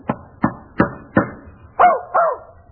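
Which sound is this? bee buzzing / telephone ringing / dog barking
dog barking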